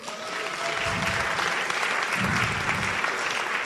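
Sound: audience applause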